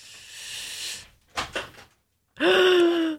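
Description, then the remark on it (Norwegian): A door is handled: a soft rush, a few quick rattling clicks of the handle or latch, then a loud, steady creaking squeal as the unlocked door swings open. No one speaks. “Men det har låst døra, eller? Skal jeg sjekke? Jeg gjør det.”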